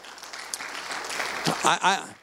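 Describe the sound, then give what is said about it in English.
An audience claps in a steady, dense wash of applause, with a few voices calling out in short rising bursts near the end. “I don't need the applause.”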